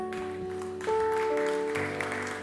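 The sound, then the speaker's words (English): An audience claps in a steady, dense patter while sustained organ or keyboard chords hold underneath, shifting pitch partway through. No one speaks. “You don't have to clap.”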